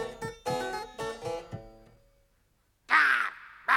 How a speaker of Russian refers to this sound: Говорящий ворон!